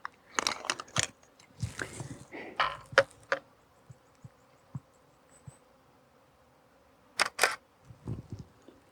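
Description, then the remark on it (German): Camera shutter clicks come in quick clusters as photos are taken while walking, several snaps in a row, then a pause before a final pair, with flying insects buzzing faintly in the conifer forests on the Schneeberg. “Ja, ich werde jetzt mal ein Stück weitergehen und sicherlich zwischendurch auch wieder ein paar Fotos machen, so wie da jetzt gerade.”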